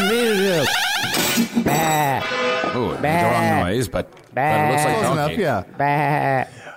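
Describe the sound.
A person imitates a donkey's bray with a series of loud, drawn-out, wavering vocal honks in quick succession, with a couple of short gaps between bursts.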